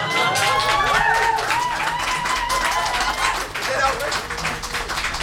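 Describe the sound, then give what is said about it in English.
An audience claps steadily throughout, calling for a singer to come back out and sing another song, a dense, continuous patter of many hands at a loud, even level, with some voices calling and cheering mixed in. “I think if we keep clapping, you might come out and sing another song.”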